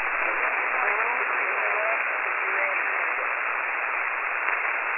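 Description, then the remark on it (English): Steady, band-limited radio static hisses throughout on an amateur radio band, with faint, garbled voices of amateur stations calling barely poking through the noise, too weak to make out call signs. “Wow, I wasn't able to make any call signs out.”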